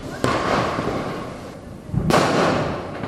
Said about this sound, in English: It's after 10 o'clock, but there's still loads of fireworks lighting up the sky. There's smoke everywhere.